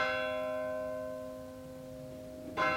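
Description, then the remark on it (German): A church bell strikes the quarter hour, its rich metallic tone ringing out and slowly fading before a second stroke sounds near the end; no voices are heard. “Dieser Glockenschlag ist auch schon wieder eine Viertelstunde rum.”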